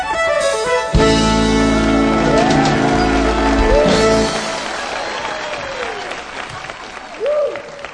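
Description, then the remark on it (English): A large crowd at an evening live music show applauds loudly and steadily after a song, with scattered whoops and whistles rising over the clapping; a brief low musical chord rings out early, and the cheering thins slightly toward the end. “We have a great crowd out here tonight.”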